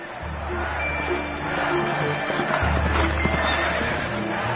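A horse neighs loudly while hooves clip-clop steadily, as riderless horses return home led by the horse Zelenko; the sustained whinny and rhythmic hoofbeats fill the short scene with no voices.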